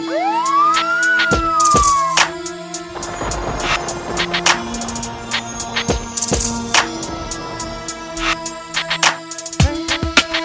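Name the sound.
police siren wailing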